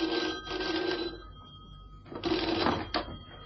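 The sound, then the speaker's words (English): An old-fashioned telephone bell rings in two bursts of rapid metallic trilling, separated by a short pause, fairly loud with a steady high ringing tone. “It's for you, sir.”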